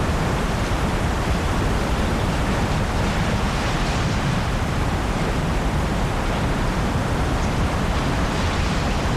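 An unfolded diaper is rustled steadily to imitate ocean surf, producing a loud, continuous hissing wash of noise with gentle swells and no pauses, with no voices.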